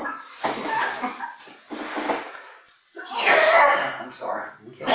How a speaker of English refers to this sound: Get it out. Yeah. I just have a cough a little bit, and every once in a while it breaks loose.